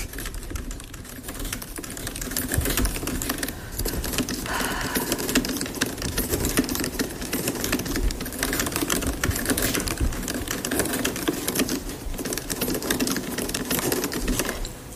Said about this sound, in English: Best of the two keyboards. This is my old Mac. This is the new Mac. I'm going to type Justine was here over and over again.